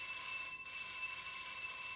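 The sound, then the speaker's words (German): A shrill electric bell rings continuously with a bright, metallic tone, broken by a short gap early on before ringing again. No voices accompany it. “Und jetzt läutet es schon wieder.”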